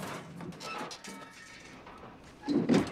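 A car door clicks open and is shut with a solid thunk near the end, after a few seconds of soft rustling and shuffling movement, as the driver gets out of a car that has just shuddered to a halt outside a house.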